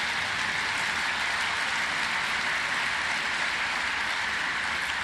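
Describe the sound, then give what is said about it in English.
A sustained wash of applause from an audience after mention of the introduction of AFLW women's Australian rules football, many hands clapping together in a dense, steady crackle that holds at an even level throughout, with no voices heard over it. “Gil's going to be very happy with that clap.”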